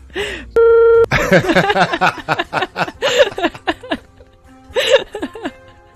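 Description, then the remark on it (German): A loud, steady censorship bleep, one flat mid-pitched tone lasting about half a second, cuts in before people burst into laughter and chatter. “Okay, würdest du mir den erzählen und ich piepst das nachher raus?”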